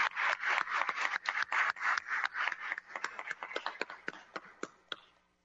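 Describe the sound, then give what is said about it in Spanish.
A round of applause at a session of the University Council of the Universidad de Guadalajara, dense and steady at first, then thinning into scattered individual claps before fading out after about five seconds. No voices are heard. “Un fuerte aplauso por la entereza de este Consejo de no permitir ningún atropello.”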